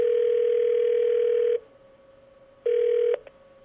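A steady electronic telephone tone sounds as a phone call is placed to be recorded: one long burst, a pause of silence, then a shorter second burst, clear with no voices.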